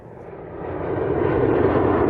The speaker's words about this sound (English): I'm here at Cleveland Hopkins International Airport, where roughly 150 flights take off every day. Loud, gas-guzzling passenger jets that leave exhaust trails in their wake.